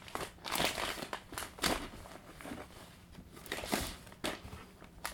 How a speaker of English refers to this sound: What are you going to do with the baby wipes? They make a good noise, don't they? A very crinkly, crunchy sound.